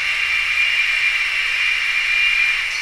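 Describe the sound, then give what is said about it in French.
A locomotive's motor, just switched on, runs steadily throughout, giving off a constant high-pitched whine layered over a broad hiss, with no change in loudness and no voices. “Il y a des bruits aussi quand la machine est allumée.”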